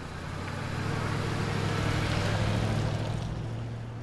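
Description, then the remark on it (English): Vehicle traffic coming in and out of the Sago coal mine on a cold, damp night: an engine rumbles steadily, a low droning hum under broad road noise that swells slightly and holds for the whole stretch, with no voices. “There's a state policeman here who's checking all the traffic coming in and out.”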